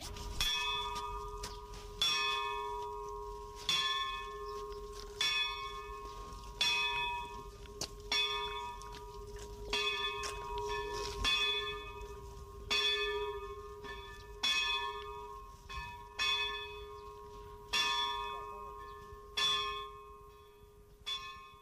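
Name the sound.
church bell ringing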